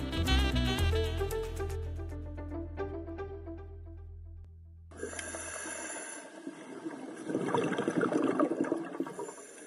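Underwater scuba breathing while diving in clear, mild water among corals and fish: after a fading electronic tone, a rush of bubbling water and loud, rasping regulator breaths fill the second half. Air is fed through tubes from the tank to the regulator. The sound is continuous, with no voices.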